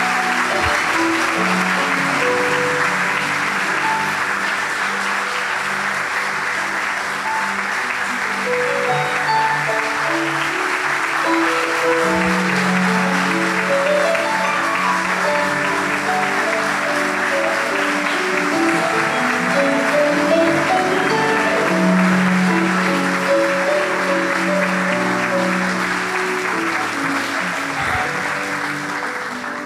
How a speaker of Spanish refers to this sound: Si vas a aplaudir a Dios, que sea más fuerte que eso.